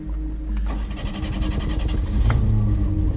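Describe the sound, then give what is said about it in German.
The engine of a red Renault Frigate car parked at the curb cranks and catches, then revs up with a steady, rising mechanical roar, fairly loud, with no voices over it. “Juliens Wagen, ein roter Renault Frigat, stand am Bordstein.”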